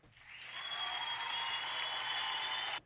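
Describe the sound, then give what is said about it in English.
A short burst of applause for zero punts in a football game, many hands clapping in a dense, steady patter that swells in quickly and then cuts off abruptly after about two and a half seconds, with no voices. “But hey, zero punts. That deserves a clap.”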